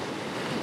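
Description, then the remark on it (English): Pacific Ocean surf washing onto a beach at Carlsbad, California, in peak summer, a steady, full rushing hiss of water with a slight windy edge, heard alone without any voices. “Ah, that's the sound of the Pacific Ocean.”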